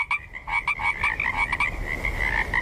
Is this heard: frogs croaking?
yes